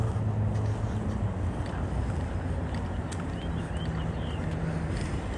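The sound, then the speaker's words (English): A steady low rumble of traffic passing outdoors, mixed with wind noise, with a few faint bird chirps high above it and no clear voices. “Put yourself right here. Right here. To the cars, to the birds, to the wind.”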